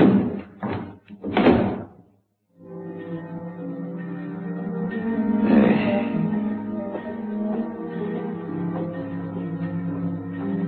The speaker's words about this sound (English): And unhurriedly, he pushed the sliding slab into the compartment and closed the door marked 12. And turned the knob that held it shut.